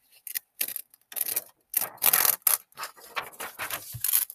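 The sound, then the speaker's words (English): Paper being folded, flipped, creased and torn along its creases: short, dry bursts of crinkling and rasping rubs, a few quick tears among them, irregular and fairly loud, with brief pauses between. No one speaks. “You keep doing that, but every once in a while in the middle of flipping it, you have to lick the part where it's creased because, of course, when paper gets wet, it's easier to tear.”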